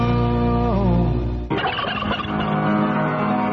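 A turkey gobbles loudly in a rapid, rattling warble lasting about two seconds, right after a sustained tonal musical passage with a sliding pitch cuts off, on San Jose radio station KLIV ahead of a Thanksgiving turkey giveaway announcement.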